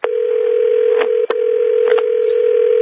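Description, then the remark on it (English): A steady, loud telephone dial tone hums continuously, broken by a few brief keypad tones as a number is dialed, with a short gap partway through. No one speaks. “Then I'm going to have one of our reporters call her back and give her a reporter number.”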